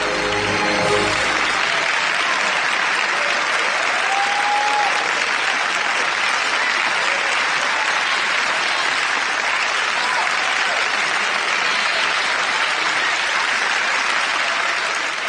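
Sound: audience applauding the performers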